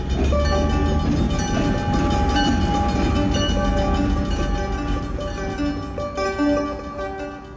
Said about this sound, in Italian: Il treno delle nuvole, rinomato a livello mondiale, nacque per iniziativa delle autorità della linea ferroviaria General Belgrano, le quali, nel novembre 1971, decisero di far partire un treno sperimentale con funzionari e giornalisti dalla stazione